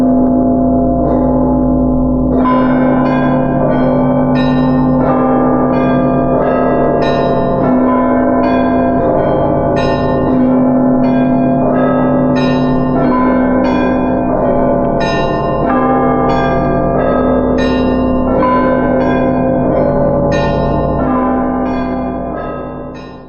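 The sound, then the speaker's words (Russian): The slow, simple Ionin church bell peal of the Rostov Kremlin rings out loud, with evenly spaced, unhurried strikes over a low, humming sustained bell tone that lingers throughout. No voices are present. “И начиная от Ионинского звона, который был самый-самый простой, да, то есть там были неспешные длительности.”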